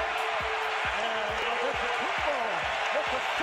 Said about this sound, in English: The crowd is so loud you can't hear Marv Albert.